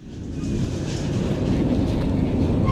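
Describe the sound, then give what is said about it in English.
A freight train rolls along the rails in Mexico, a loud, steady low rumble with faint rhythmic clatter that holds constant throughout, with no voices. “There's a network of freight trains that runs the length of Mexico from Guatemala up to the U.S. border.”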